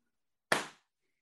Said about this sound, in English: And then I'll go to sync clap and you carry on talking, but they've just seen the trailer.